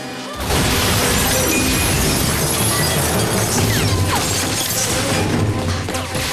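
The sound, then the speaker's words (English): A plate glass window shatters with a sudden loud crash as a woman runs and launches herself through it, followed by several seconds of dense, continuous breaking and tumbling debris. “Zen runs and launches herself through a plate glass window.”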